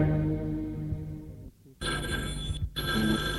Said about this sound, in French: Elle décroche, le téléphone a sonné.